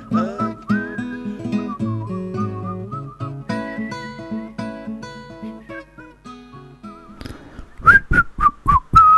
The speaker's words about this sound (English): One of the greatest bits of whistling on a record ever.